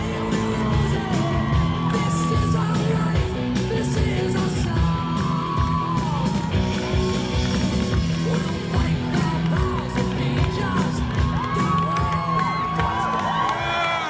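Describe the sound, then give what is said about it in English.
A large rally crowd cheers loudly and without pause, a dense roar broken by scattered whoops and high yells that rise and fall over the whole stretch. “What a crowd.”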